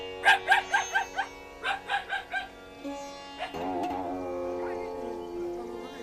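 A dog barks near a cattle shed holding a calf, in two quick bursts: about five sharp barks, a short pause, then four more, followed by a longer drawn-out, wavering whine. Clear, with no talking.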